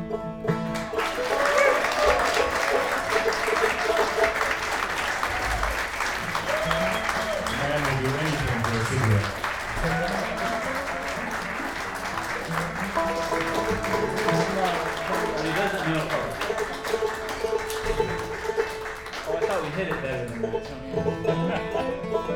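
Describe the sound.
A long, sustained round of loud applause from a concert audience after the band's musicians are introduced, dense steady clapping lasting over twenty seconds, with voices calling and cheering mixed in throughout.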